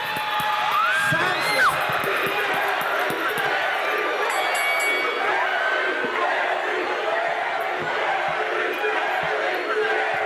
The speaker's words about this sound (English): so ladies and gentlemen, let's welcome to the stage with a loud, loud round of applause, the man behind all this drama.